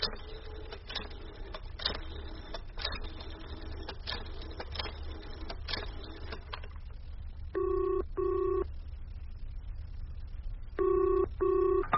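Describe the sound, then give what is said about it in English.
A telephone in a public phone box is dialed with a run of quick mechanical clicks to call a factory, then the line rings in paired bursts, two double rings separated by a short pause, clear with no voices. “I'd better ring the factory before it closes.”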